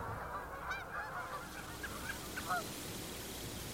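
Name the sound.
geese honking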